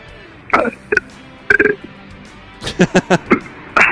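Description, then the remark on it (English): A run of short burps, one after another with brief pauses, including a quick cluster of several near the end. No one is talking. “I'm having a burping issue today, too.”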